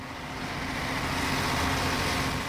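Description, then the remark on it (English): A steady, continuous rumble of a bus engine and road noise, heard from inside the bus as it drives at a constant pace along an isolated rural road, cleared of snow, on a misty morning, with no one speaking. “We've been travelling now more than half an hour.”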